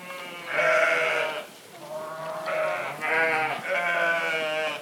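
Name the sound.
sheep bleating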